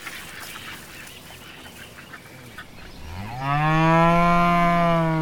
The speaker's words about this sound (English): The cow's angry too. That's not a cow. It's a bull.